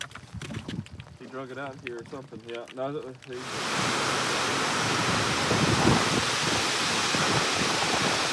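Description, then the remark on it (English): A voice speaks briefly, then heavy rain takes over as a steady, dense hiss pouring down outdoors onto water in a cove during fishing, with lightning and high winds, loud, continuing without a break. “So it's raining, but that ain't stopping us.”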